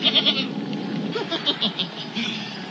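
goat bleating

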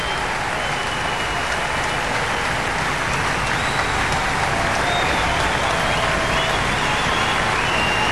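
concert hall audience applauding

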